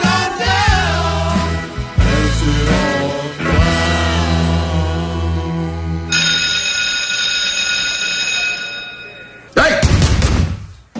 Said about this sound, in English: Was that the last bell? Yep.